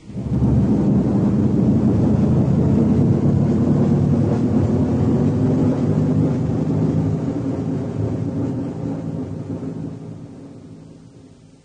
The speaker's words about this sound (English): 5 seconds to main engine burn. From now.